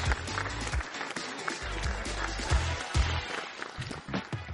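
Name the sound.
round of applause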